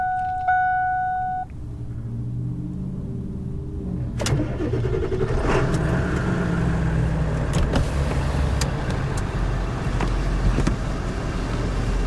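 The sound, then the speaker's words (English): A short electronic warning chime sounds, then a starter cranks and a diesel engine catches and is left to warm up, settling into a steady, loud, low idle rumble with a clattery knock that continues to the end, on a sunny, very windy day after a storm. “I suppose we can fire the diesel up and get that warmed up, because it does take a while to warm up.”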